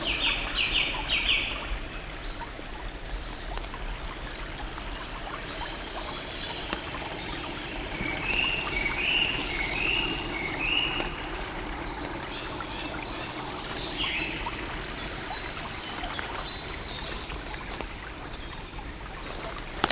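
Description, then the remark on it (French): A gurgling stream runs steadily throughout, with birds chirping in short bright bursts over it, near the start, around the middle and again later. No one speaks. “Où gargouille le ruisseau, éclaboussé par les cassouilles des oiseaux.”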